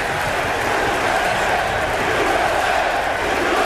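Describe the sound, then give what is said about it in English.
A huge New York baseball stadium crowd roars and cheers continuously as President George W. Bush walks to the mound to throw out the first pitch, a dense, loud wall of voices and applause that holds steady without a break. “Bush confidently strode to the top of the mound wearing an FDNY quarter zip to throw out the first pitch, the New York crowd unleashed a loud, cathartic roar.”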